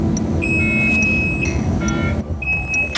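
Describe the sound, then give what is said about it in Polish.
A bus's electronic warning tone beeps repeatedly, signalling that the driver's cab door is open: steady high-pitched pulses with harmonics over a low engine rumble and cabin noise; no one speaks. “Czyli to informuje, że kierowca ma otwarte drzwi kabiny.”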